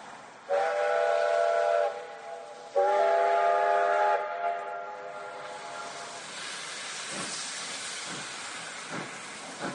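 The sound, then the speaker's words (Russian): Two loud, short steam locomotive whistle blasts sound one after the other as the train starts to pull away from a halt's platform, followed by a steady hissing rumble of the train with a few faint metallic clanks. “Два коротких гудка, и качнулась лавка. Лязгнули стекла, заскрипели стенки вагона.”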